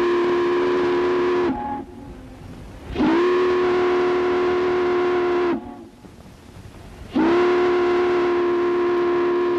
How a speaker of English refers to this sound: These are ferry boat horns heard off of the Hudson River January 24th, 1929.